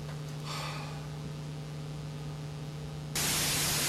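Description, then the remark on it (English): Steady crackling radio static with a low electrical hum running underneath, then the hiss suddenly swells into a louder, brighter rush of white noise near the end. “Are you troubled by worldly static when you pray, making it difficult for you to hear from God?”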